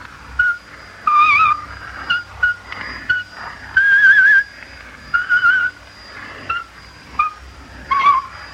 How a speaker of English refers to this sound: The Slavic presenter started his talk by whistling a traditional folk song whose refrain went, out with them, out with them.